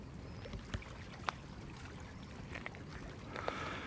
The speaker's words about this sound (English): You can probably hear the sea now here.